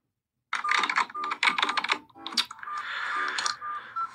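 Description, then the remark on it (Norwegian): Rapid typing on a computer keyboard by a manager planning how to cut next year's budget, dense bursts of clicky keystrokes with brief pauses between flurries, fairly loud and continuous for about four seconds, with no talking. “Leder som planlegger hvordan man kan kutte ned på neste års budsjett, skriver det.”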